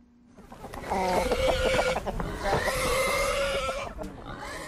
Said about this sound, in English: Chickens scrabble in the dirt and pigs feud over food on Brightside Farm in the Machalies Mountains, north of Johannesburg.